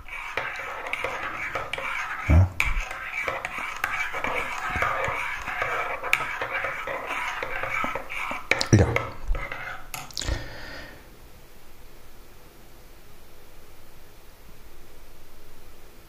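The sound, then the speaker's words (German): A spoon stirs a chocolate cappuccino in a cup for about ten seconds, with a soft continuous scraping swirl and a few sharp clinks against the rim, then stops, leaving quiet room noise. “Immer zwischendurch nochmal rühren, rühren, rühren.”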